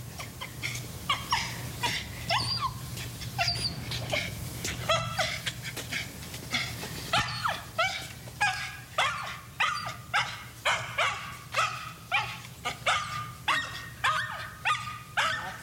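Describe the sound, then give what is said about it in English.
Chinese crested dogs bark over and over a few feet in front of a house, mixed with whimpers and yips; the barks become a steady rhythmic run in the second half over a low background hum. “And this is one of the dogs.”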